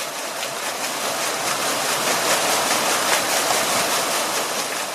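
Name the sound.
flowing brook water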